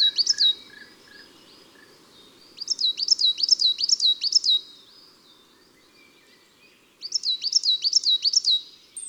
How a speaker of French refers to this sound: La mésange noire, son chant simple et sa voix claire.